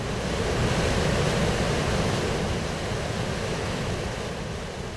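Steady, loud rush of Spree river water pouring almost like a waterfall into a former open-cast mine at the Cottbuser Ostsee near Cottbus, Germany, a dense continuous roar heavy in the lows that swells slightly early on and then holds, with no voices.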